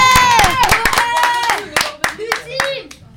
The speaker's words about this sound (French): Dédicace à vous, applaudissez-les.